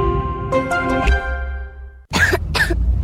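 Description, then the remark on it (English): A child coughs twice in quick succession, loud, after a brief sustained tonal sound that fades out; part of a DayQuil Kids advertisement. “What about my cough?”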